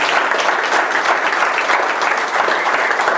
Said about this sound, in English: Give Jesus a hand of applause.